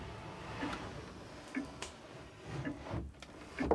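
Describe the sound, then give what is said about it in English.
A drawer is pulled open and rummaged through in search of a pen and paper, giving a scattered series of soft clicks, knocks and light scrapes. Fairly quiet, with no one speaking. “Ah, in this drawer, perhaps.”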